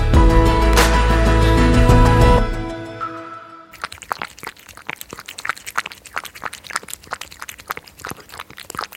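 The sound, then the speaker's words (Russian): A hedgehog eating: after a loud sustained tonal passage fades out, a run of rapid, irregular crunching and clicking chews follows, sharp and fairly faint, with no voices. “Это он ест.”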